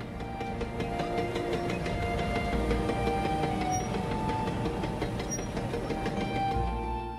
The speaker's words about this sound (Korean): 사랑스러운 어린 아들은 자기 아버지가 철도를 연결시켜 놓으면 승객들을 태운 기차가 기적을 울며 빠르게 지나가는 장면을 지켜보는 것을 좋아했습니다.